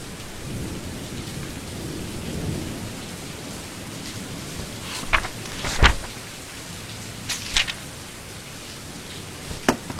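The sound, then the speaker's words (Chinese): A light drizzle of rain hisses softly and steadily in a quiet alley in Yangzhou, falling on a painting and calligraphy stall under a tree, with a few sharp drips or taps cutting through in the second half. No one speaks. “这是扬州城一处安静的小巷，树下的书画摊前，青山书生伏案执笔，不妨绵绵细雨忽来，阴云了岸上的画。”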